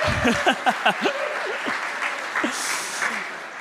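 An audience at TBC breaks into a round of applause for the speaker's grandfather, who just turned 90 this week, a dense, steady wash of clapping with a few brief cheers and whoops rising above it before it tapers off.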